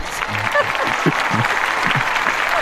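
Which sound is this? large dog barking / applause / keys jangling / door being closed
applause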